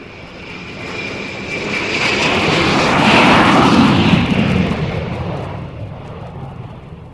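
A private propeller airplane's engine roars steadily, swelling louder toward the middle, then easing off slightly, with a broad rumbling drone and no voices.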